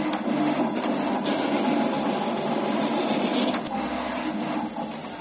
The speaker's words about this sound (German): Ein Plotter. Das kann man sich vorstellen wie einen riesigen Drucker. So lang wie eine Tür, der schreibt auf eine riesige Papprolle Muster und schneidet sie aus.